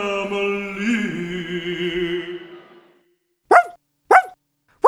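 A sustained tonal drone fades out, then a dog, Jazz Dog, barks three times in sharp, evenly spaced bursts, loud, with silence between them.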